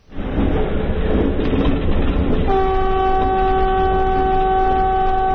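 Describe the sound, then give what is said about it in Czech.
A passenger train carrying Transport Minister Zorana Mihajlović and Russian Railways representatives on the modernized Resnik–Valjevo section of the Belgrade–Bar railway rumbles and clatters along the rails, then partway through a loud, steady horn sounds in a sustained multi-tone blast that lasts to the end over the continuing rumble. “Čast da se prvi provozaju modernizovanim delom barske pruge imali su ministarka saobraćaja Zorana Mihajlović i predstavnici ruske železnice.”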